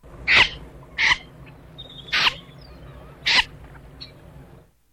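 Four harsh, rasping scape alarm calls from a common snipe, each short and strident, spaced roughly a second apart against a quiet background with no talking.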